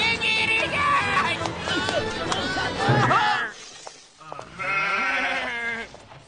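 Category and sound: animal, sheep bleating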